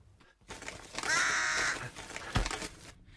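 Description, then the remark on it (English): A crow calls out among trees with a single loud, harsh, drawn-out caw, preceded and followed by rustling outdoor noise and a brief thump near the end. “She casts around in the treetops to see where the sound is coming from.”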